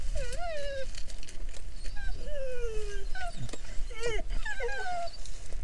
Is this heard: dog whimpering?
yes